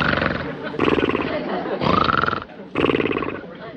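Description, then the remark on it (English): A cartoon pet dinosaur named Dino snores loudly, with four long, rumbling, growly breaths following one another in a steady rhythm, and no talking over them. “Now Dino has to start snoring.”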